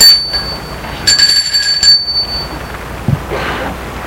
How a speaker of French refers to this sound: Il sort de voiture, va vers la maison de ses parents, sonne à la porte.